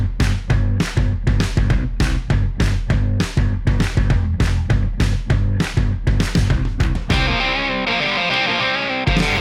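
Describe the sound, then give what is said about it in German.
Loud, punchy intro music with a driving, evenly spaced beat and distorted, effects-heavy tones, shifting near the end into a sustained, shimmering wash of sound. No voices. “Okay, dann würde ich sagen, an dieser Stelle wie immer, Musik bitte.”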